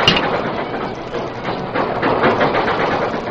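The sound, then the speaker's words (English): A steam work engine, put in reverse with the throttle opened wide, works hard moving backwards; its loud, hissing chuffs form a steady rhythmic pulse that quickens as the train gathers speed. No voices. “The work train moved backwards, at first slowly, too slowly, it seemed to the Lone Ranger, and it began gathering speed”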